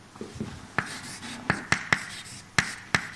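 Chalk taps and scrapes against a board as the balance of forces on a particle is written during a physics lecture: six sharp, clicky strikes in an uneven rhythm, mixed with soft scratching strokes, with no one speaking.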